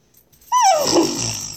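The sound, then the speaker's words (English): A person imitates a horse neigh: a single loud, breathy vocal whinny that starts high and slides quickly downward into a rough, rasping tail lasting about a second, with no other talking. “That was kind of horse-like.”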